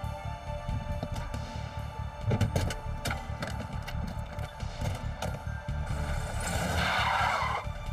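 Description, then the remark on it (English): A stolen car speeds away from a hotel parking lot in Lexington, Kentucky, tires squealing, the rumble of the engine steady beneath a few sharp clatters before a louder screech rises near the end. “Leaving the professor wounded but still alive, they sped away.”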